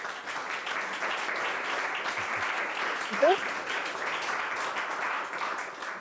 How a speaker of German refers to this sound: Sie kriegt einen kleinen Applaus von euch, oder?